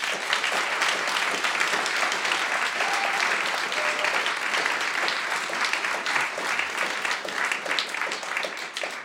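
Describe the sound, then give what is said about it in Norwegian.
Warm, sustained audience applause for poet Frode Gryten at the close of the final salongen show, a dense steady patter of many hands clapping, holding an even level throughout. “Så for aller siste gang i salongen, gi Frode Gryten en varm applaus.”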